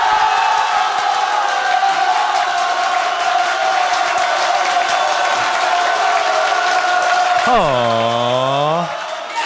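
A large crowd applauds and cheers loudly and steadily, dense clapping under shouting voices, with one long rising-and-falling whoop near the end before the noise drops slightly.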